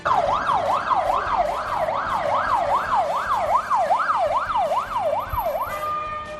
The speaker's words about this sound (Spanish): Aquel martes por la mañana fue enorme el revuelo en la calle Pepe Blanco de Logroño. El sonido de estas sirenas de las patrullas de la Policía Nacional alteraba por completo la paz de los vecinos de esa céntrica calle de Logroño.